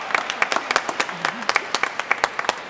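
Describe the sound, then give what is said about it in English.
Audience applause after a report that the finances were handled in a well-organized way: scattered, uneven claps from a modest group, sharp and bright, rising and falling irregularly for a few seconds, with a faint voice murmuring underneath. “And nobody's gonna clap for that, I guess. Stand up for it, too.”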